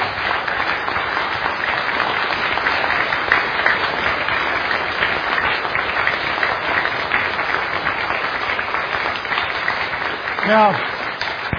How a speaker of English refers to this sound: And we just one more round of applause for our speakers. Thank you, guys.